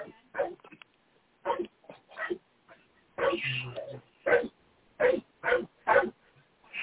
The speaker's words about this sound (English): Well, I will tell you that my dog's awake. It's like, hello, everybody, I'm awake. Think I might want to go outside before I go back to bed again.